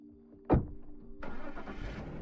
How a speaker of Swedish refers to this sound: När bilarna kört ut från uppfarten